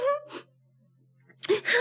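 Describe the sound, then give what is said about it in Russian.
Tearful sobbing from someone moved while telling a story: a wavering, moaning cry and a breathy catch, a short quiet pause, then a loud burst of gasping sobs. “Я всегда плачу, когда доходит до этого места.”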